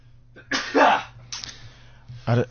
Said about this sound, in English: Let me share my sneeze with you first thing on a Monday.